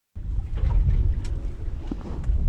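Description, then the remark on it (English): A work boat engine rumbles steadily and loudly, a deep continuous drone with wind buffeting and faint water splashes, and no voices, on a trip to a wild kelp bed near Ketchikan. “shuts off the engine of his work boat as he approaches his go-to wild kelp bed.”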